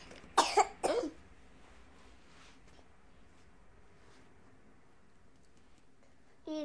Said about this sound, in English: Okay, darling. Got a bit of a cough.